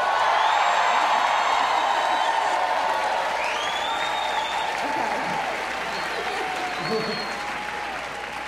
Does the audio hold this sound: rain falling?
no